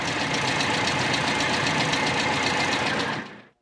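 A motor car drives up to the Emporium and idles with a steady, rapid rumbling throb, holding an even level for about three seconds before quickly fading away. No voices are heard.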